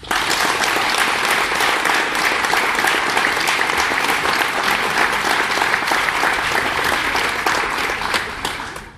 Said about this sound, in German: Und das seit vielen, vielen Jahren, nehmt für alle Beteiligten, die auch noch hinter den Kulissen sind, einen ganz dicken Applaus mit